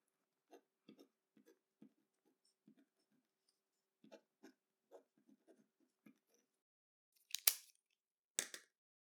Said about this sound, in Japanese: じゃあ、この用紙に名前とクラスを書いてもらってもいいかな。